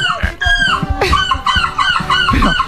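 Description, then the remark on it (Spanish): A person loudly mimics seagull calls, a run of harsh, squawking cries in quick succession that rise and fall in pitch, with no other speech. “porque tanto el sonido como el comportamiento de las gaviotas es lo que imitan.”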